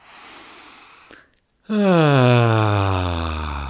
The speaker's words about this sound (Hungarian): Most ásíts egy jó nagyot.